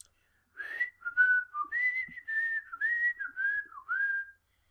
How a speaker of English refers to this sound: I can't whistle. What are you trying to whistle? Just the nonchalant whistling.